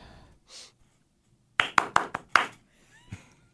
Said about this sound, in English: Everybody clap with me.